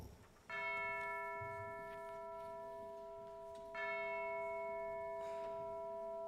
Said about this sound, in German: Da schlug die schwere Glocke der Nachbarkirche Ding-Dong.